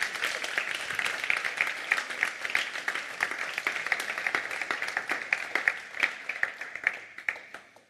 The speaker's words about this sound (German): Mit einem Applaus von eurer Seite begrüße ich hier